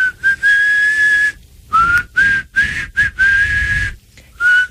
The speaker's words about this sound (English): Are you doing inside and outside? I'm a sucker and a blower when it comes to whistling.